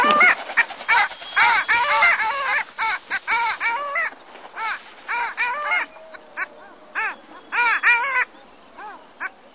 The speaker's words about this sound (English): We're going to play a little bit of sound from this bird. And just a warning, birds this week are not necessarily good singers. Not melodious.